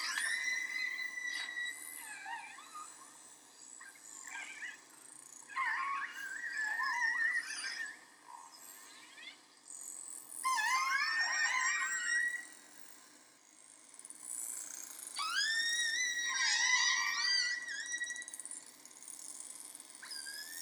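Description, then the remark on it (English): A pod of killer whales communicating with each other using echolocation, recorded by a Lab of Ornithology bioacoustics program: bursts of squealing, harmonic whistles and pulsed calls that sweep up and down in pitch, coming in clusters over a soft hiss, with no voices. “So they have this really cool clip of a pod communicating with each other using echolocation.”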